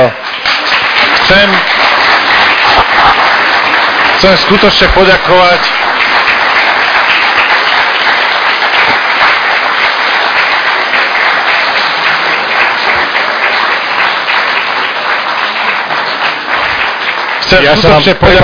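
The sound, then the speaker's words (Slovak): A large crowd applauds loudly and steadily for the whole stretch, a dense wash of clapping, with a man's voice speaking briefly over it near the start and end. “Dobre, takže ja si myslím, že si zaslúžia obrovský potlesk.”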